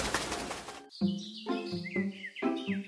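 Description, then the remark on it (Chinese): A short, rushing flutter of an owl's wings flapping as it takes off, followed by a few bright, pitched bird chirps repeating in quick bursts. No voices. “说完，猫头鹰就飞走了。”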